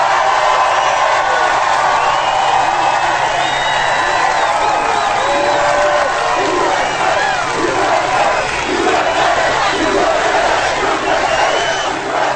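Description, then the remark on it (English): A large crowd at a Trump rally chants "USA" over and over, a loud, dense roar of many voices sustained for the whole stretch with cheers and yells mixed in. “and you heard the crowd yelling, USA, USA, USA.”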